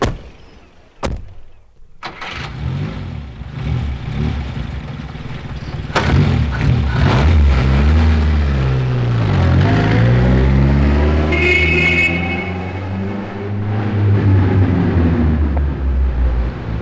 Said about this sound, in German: Wir fahren zur Yacht und lassen den Wagen dort stehen.